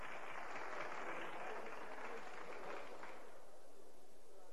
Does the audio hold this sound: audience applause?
yes